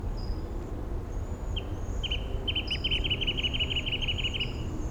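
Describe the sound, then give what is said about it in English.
A wrentit sings a quick series of sharp, repeated notes that speed up into a bouncing trill, with thin, high bird calls and a steady low rumble underneath. “Five seven with a wren tit in the background.”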